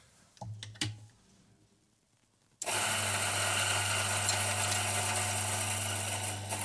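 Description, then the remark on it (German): A few soft clicks and taps, then a coffee grinder starts abruptly, grinding a few purge beans after a change of coffee variety, and runs with a loud, steady, buzzing whir and a strong low hum, continuing unbroken to the end. “So, ich lasse jetzt erstmal nochmal wir haben die Sorte gewechselt haben. Ja. Ein paar Spülbohnen durch.”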